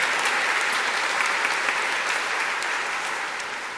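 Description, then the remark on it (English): A crowd at a church service claps steadily for the teachers, a dense, bright patter of many hands that holds strong throughout and begins to taper off slightly toward the end, with no voices rising above it. “Teachers out here, can we give them a round of applause?”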